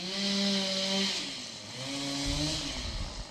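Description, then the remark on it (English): Chainsaws snarl steadily in western Kentucky, clearing debris of tree branches snapped by heavy ice, their engine pitch rising and dipping as they rev and bite into wood, with a heavier grinding cut toward the end. No one speaks. “Across western Kentucky, chainsaws are in use nonstop to clear debris.”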